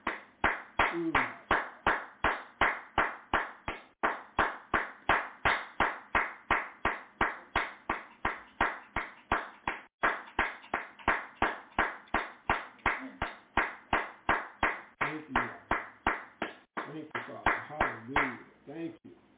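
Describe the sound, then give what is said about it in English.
An audience claps in praise, a steady, even rhythm of sharp hand claps sustained throughout, with voices rising faintly beneath the clapping near the end. “A hand clap of praise.”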